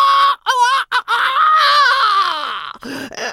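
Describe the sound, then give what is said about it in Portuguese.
A loud rooster crow, voiced by a person imitating it: a couple of short strained bursts, then one long wavering cry that slides downward before trailing off. “Por isso, eu grito a plenos pulmões.”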